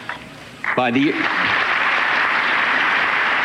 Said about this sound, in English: The crowd pushes him to applause, and he just kind of accepts it.